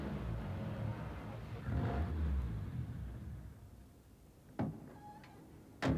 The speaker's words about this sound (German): Aber da, die Einfahrt zur Garage steht offen. Und da fährt gerade ein Auto rein.